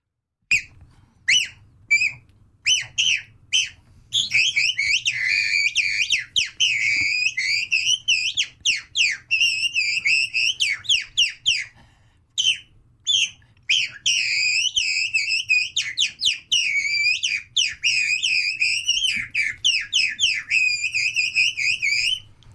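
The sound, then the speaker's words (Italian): A bird call whistle, a decoy call used for hunting, imitates skylark song: a few sharp chirps, then a long, unbroken stream of rapid, high-pitched warbling trills, loud and busy, with no voices. “Ce lo devi dire, perché adesso faccio una lodola. La lodola.”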